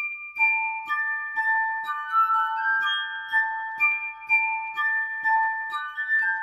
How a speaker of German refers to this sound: ließ er Gläser in allen Größen anfertigen, die gleich über dem Stiel unterschiedlich dick waren und dadurch höher oder tiefer klangen. Das Wasser brauchte er jetzt nur noch, um die Fingerspitzen feucht zu halten. Er nannte sein Instrument Glasharfe.